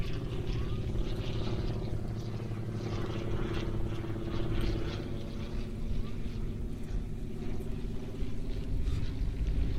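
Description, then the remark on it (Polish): A propeller tow plane pulling a glider drones steadily overhead, its engine producing a continuous, even hum with a low rumbling undertone that holds at a fairly loud level throughout. “ten szybowiec wyciąga Mateusza kolega”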